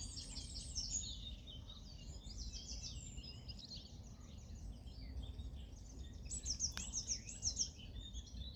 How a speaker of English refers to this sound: Welcome to this wild Nidra at the Avalon Marshes on a bright spring morning, surrounded by birdsong.